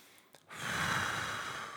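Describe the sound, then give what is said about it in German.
A single long, breathy exhale, a steady airy rush that starts abruptly after a brief quiet moment and carries on for over a second. “Und dann immer, wenn das Opfer ausschnauft, dann zieht sie zu.”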